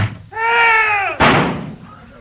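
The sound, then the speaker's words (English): A door swings shut with a long, whining hinge creak that ends in a single loud slam, followed by a brief fading rumble. “Now, I shall close the door.”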